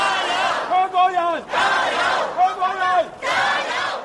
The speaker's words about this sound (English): As we record this podcast, demonstrators are holding a rally at Hong Kong's international airport, and some airport and airline staff are taking part in an effort to attract global attention to their concerns.